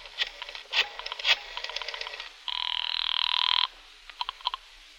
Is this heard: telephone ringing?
yes